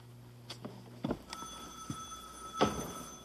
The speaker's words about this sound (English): The phone again.